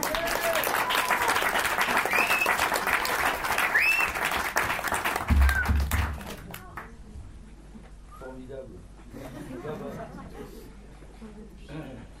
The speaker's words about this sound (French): On peut les applaudir encore.